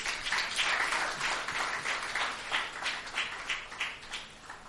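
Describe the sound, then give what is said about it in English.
A church audience breaks into sustained applause for a young woman, a dense, steady wash of many hands clapping at once for the full few seconds, with no voices standing out. “Clap for her.”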